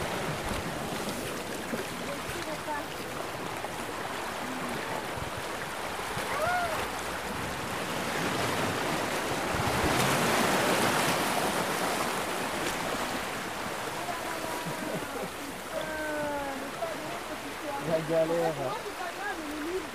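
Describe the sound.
Steady wind buffets the microphone on the shore as the tide starts to rise, making a continuous low roar that surges loudest midway. Water rushes throughout, and faint voices break through near the end.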